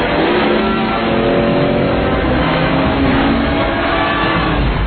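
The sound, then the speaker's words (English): A car engine revs hard and accelerates, its loud, steady roar climbing in pitch for about five seconds with no voices over it. “Wait, this car is faster. This is a faster fucking car.”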